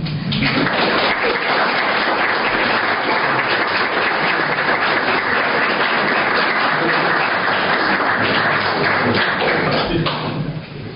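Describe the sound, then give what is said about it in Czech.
Sustained audience applause at a church confirmation, given to rate the confirmation: a dense crackle of many hands clapping at steady loudness for about ten seconds before fading slightly at the end, with no talking over it. “Pokud si myslíte, že prospěje, tak to poručuji za tleska.”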